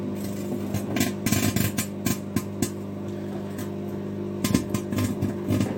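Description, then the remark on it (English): A steady low electrical hum with harmonic buzz runs throughout, broken by irregular bursts of sharp crackling and snapping as plasma sparks from ionization in the powerful field of a running microwave. No voices. “That's ionization in a microwave field.”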